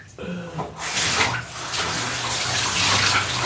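Tap water pours steadily through a vacuum cleaner filter being rinsed out, the water coming out dark black; a continuous splashing rush that starts abruptly after a brief quiet moment and stays loud throughout.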